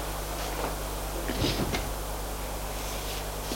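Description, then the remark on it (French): A short burst of knocking and clattering at the door of a family home as the father arrives, a few quick thuds and rattles around midway, fairly quiet against a steady low hum with no one speaking. “On entend du bruit à la porte.”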